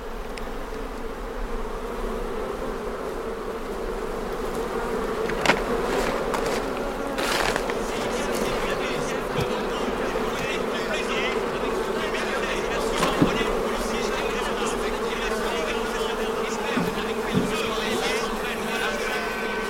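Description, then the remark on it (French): A dense, steady drone of many honeybees buzzing at a hive after a puff of smoke, as a nucleus box is placed at the entrance, continuous throughout with a few brief knocks and clicks rising above the hum. “Donc un petit coup de fumée, là on entend le bruissement.”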